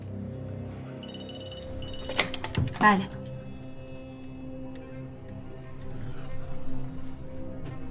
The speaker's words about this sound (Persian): موبایلته؟ تلفن هتل.